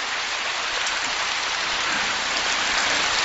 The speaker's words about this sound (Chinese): 怎么鼓掌声音一点都不响？